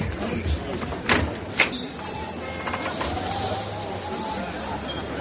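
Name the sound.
door being opened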